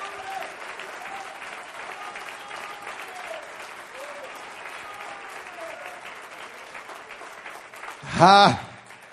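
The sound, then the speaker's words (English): An audience claps hands together in a steady, dense patter for several seconds, with faint voices calling out underneath and a sudden loud, high vocal cry near the end. “Oh, if you love him, clap your hands into him for just a minute.”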